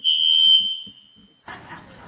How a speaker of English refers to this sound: For those of you out on the cybercast, it is men's turn, and apparently we don't cook very well, so we burned some hot dogs and it set off the fire alarm. Everybody's fine.